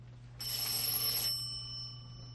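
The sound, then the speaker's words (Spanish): A single short telephone ring as a phone call is placed, about a second long, bright and metallic, its tone lingering briefly over a low steady hum. No voices are heard. “Toma el teléfono y llama.”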